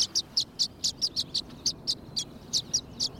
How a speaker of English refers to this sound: Once nesting season ends, these violet-green swallows seem to know it's time to party. They usually nest as single pairs in cavities or nesting boxes. But now, they gather on electrical wires by the dozens in the western United States